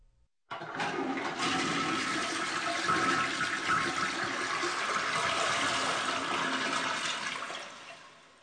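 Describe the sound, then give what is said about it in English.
A toilet flushes, with a goldfish being flushed down it. A sudden loud rush of water roars steadily for several seconds before beginning to fade, with no voices present. “Sorry, I had to flush my goldfish down the toilet.”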